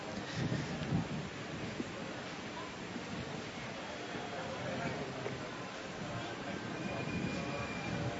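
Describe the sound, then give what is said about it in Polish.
Strong ocean wind blows steadily across the microphone on Copacabana beach in Rio de Janeiro, a continuous rumbling roar with low buffeting gusts, while faint indistinct voices of young people murmur in the background as they wait for the profession of faith. “Młodzież pośród wiatru, który powiewa tutaj na plaży Copacabana, od oceanu, kotłuje się gdzieś między tymi wzgórzami, które otaczają plaże i Rio de Janeiro, powstaje w tej chwili, oczekując na wyznanie wiary.”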